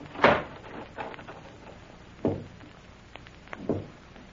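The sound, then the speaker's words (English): A door swings shut with a solid thud, followed a couple of seconds later by two softer knocks on the door and a faint click, otherwise quiet. “Close the door.”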